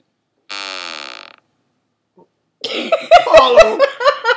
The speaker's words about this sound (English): I'm testing out some like sound effects. So like when you get it wrong, you buzz it.